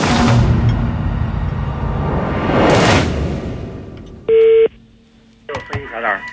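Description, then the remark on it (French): A brief, loud electronic telephone tone sounds once, an outgoing call being placed from France, after a stretch of rushing noise; a voice starts speaking right after it. “Aussi faut-il procéder par téléphone.”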